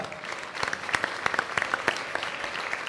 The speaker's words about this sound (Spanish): Un aplauso